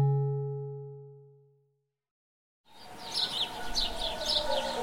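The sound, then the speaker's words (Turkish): A ringing tone fades into a brief silence, then birds start chirping in quick repeated bursts over a steady, rushing outdoor background. “Sizde akan ırmakların, kuş cıvıltılarının, deniz dalgalarının ve kırılan kemiklerin sesini dinlemeyi sever misiniz?”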